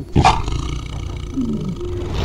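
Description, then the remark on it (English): About 20 big cats at a zoo roar together: a loud, harsh burst opens, then low rumbling roars and growls overlap and drone on steadily. No one speaks. “All those noises of like 20 cats all together vocalizing at the same time.”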